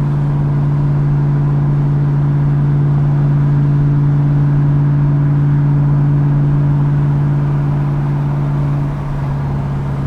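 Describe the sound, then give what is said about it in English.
A car engine holds a steady, loud drone at moderate revs of around 2,200 rpm, with a low hum and road noise filling the cabin. It eases slightly near the end. No one speaks. “Back off a little bit, see if I can do a little burst with the windows down all the way.”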